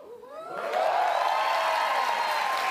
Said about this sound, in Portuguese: Então, vamos comemorar. Aplaudam o mestre